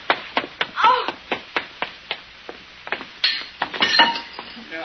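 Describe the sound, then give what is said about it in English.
Pliers bang against metal pipes up above in a rapid, uneven series of sharp clanks, some hits leaving a brief metallic ring, with no voices present. “Fine, I hit the pipes up above instead of the window.”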